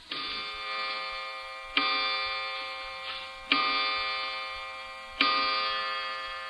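clock striking

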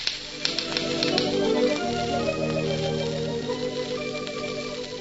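typewriter typing

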